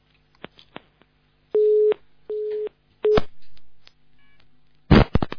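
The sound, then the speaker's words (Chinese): A telephone busy signal beeps in three short, steady tones on a radio call-in line, mixed with scattered clicks of a handset being handled, ending in a loud burst of rustling noise. “哎呀，电话机挂挂好，弄弄好。”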